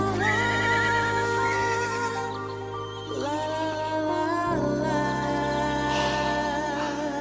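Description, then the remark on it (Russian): A winged horse whinnies with a wavering, drawn-out call over a sustained musical backdrop, loud, with the music shifting to a lower tone partway through. “Тут чудо! Кони с крыльями!”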